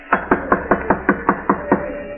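Loud, insistent knocking on a door: a quick, steady series of about nine firm raps, evenly spaced, with no voices.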